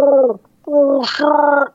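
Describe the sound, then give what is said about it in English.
A voice imitates a small horned, spiny fish that walks on its fins, screaming as it swims away underwater: two loud, wavering, gargled vocal bursts separated by a short pause, the second rising into a bubbly, hissing gurgle before trailing off. “Swim away screaming underwater. You just hear...”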